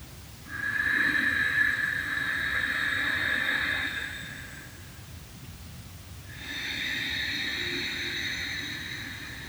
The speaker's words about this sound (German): Ihr hört ja das Geräusch, also wenn man Ujjayi atmet, ich mache euch das mal kurz vor, aus dem Stegreif.